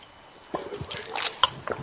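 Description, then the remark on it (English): A quiet sip of water: a few soft wet clicks and a squishy swallow, with a brief gurgle near the end, and no talking. “So, I'm going to take a drink of water because I'm going to be talking for quite a while here.”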